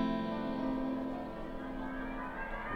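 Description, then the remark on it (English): A sustained, droning tone smeared by a Space Echo tape delay effect, its repeats stacking into a thick, swirling wash at steady moderate volume, with no voices. “Well, and also we were saying on that track, you can hear the space echo right there in the top.”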